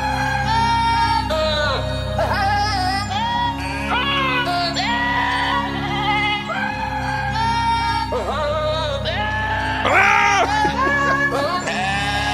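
Dwarf-sized goats bleat and scream over and over in loud, strained, human-like cries, several voices overlapping in a constant chorus with only brief gaps between calls.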